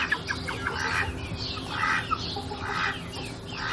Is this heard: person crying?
no